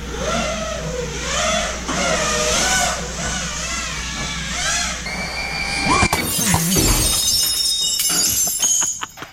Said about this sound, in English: This was trending on the YouTube. Here is a drone flying through a sliding glass door.